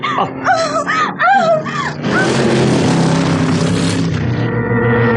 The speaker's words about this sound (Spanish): El auto, lanzado como proyectil de catapulta a causa del descenso pronunciado, golpea las rocas de un lado de la carretera. Da tumbos. La inercia irresistible lo arrastra camino abajo.